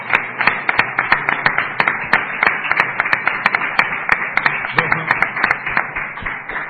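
A crowd applauds steadily, many hands clapping at once in a dense, continuous patter with sharper individual claps standing out, sustained at an even loudness for several seconds.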